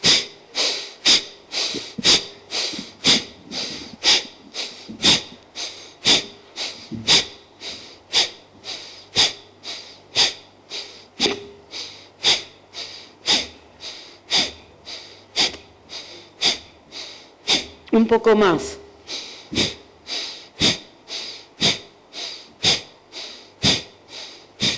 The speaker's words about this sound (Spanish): Observando otra vez la escena, comienzo a hacer respiración de fuelle nuevamente.